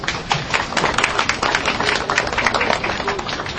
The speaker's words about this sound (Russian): Главным героем, разрезавшим ленточку, стал глава администрации губернатора Свердловской области Александр Левин. Остальные предпочли молчать и хлопать.